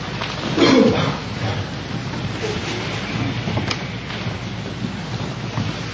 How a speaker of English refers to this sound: The breathing with slight constriction of the throat, where you're making, especially on your exhale, a big sigh every time. Try and get your breath to a nice, slow, and steady rhythm.